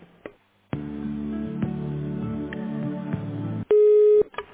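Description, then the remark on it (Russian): A telephone line during a call transfer: a buzzing, harmonic-rich electronic tone holds for about three seconds, then a single loud, steady mid-pitched beep sounds briefly before cutting off. “Я вас переключу”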